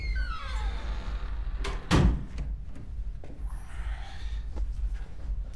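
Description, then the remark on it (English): A room door marked with the number 5 swings shut with a sharp, solid thud, preceded by a faint creak and followed by a few soft clicks and rustles in a low background hum. “Joy closes the door.”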